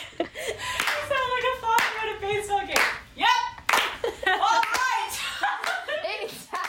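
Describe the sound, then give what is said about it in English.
Sharp rhythmic hand claps recorded as a clap track for a song, while excited voices whoop and shout loose, weird ad-libs over it, rising and sliding in pitch, lively and fairly loud throughout. “We were just trying to get the clap track to have like more texture to it and just adding kind of weird ad-libs throughout it, but it just ended up kind of going off the rails.”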